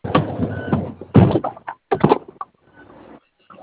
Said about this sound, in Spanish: Es que me aparece la alerta de las puertas. ¿Están cerradas? Sí, otra vez me volvió a mandar el de la puerta. A ver, la cierro bien, a ver, espérame.